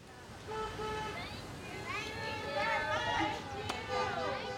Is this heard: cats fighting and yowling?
no